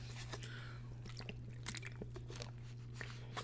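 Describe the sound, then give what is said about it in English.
Someone drinking water: a run of quiet sips and swallows with soft, wet mouth clicks at an uneven pace, over a steady low electrical hum, with no talking. “hold on, water break.”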